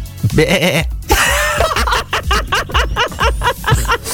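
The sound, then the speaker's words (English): A person imitates a goat's bleat with a Liverpool accent, producing a series of wavering, nasal bleating cries, with a burst of laughter partway through and more choppy bleats following. “a goat from Liverpool.”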